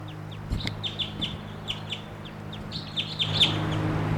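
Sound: wild bird calling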